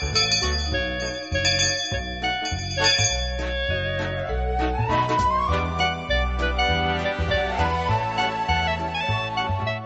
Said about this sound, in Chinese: 每次听到上课的铃声呢，我…是非常的高兴。但愿听每周辅导教室的每一位同学也听到这个铃声的时候呢，心里面就非常的期待。